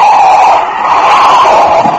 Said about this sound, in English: I was out of my car almost before it stopped, but...